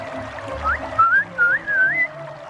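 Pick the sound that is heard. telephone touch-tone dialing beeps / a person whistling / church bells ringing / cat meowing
a person whistling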